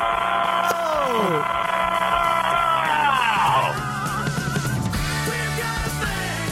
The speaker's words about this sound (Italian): Non so, a me è una cosa che mi mette di buon umore. Ma no, cioè, me lo sento continuamente. Sì, cioè, vado a casa continuamente, vado a dormire e devo sentire prima l'urlo